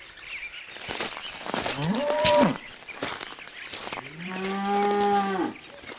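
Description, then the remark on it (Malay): A cow moos twice: first a short, rising low call, then a longer, louder, steady moo, over faint background rustle. “Oh, di samping saya ada sapi.”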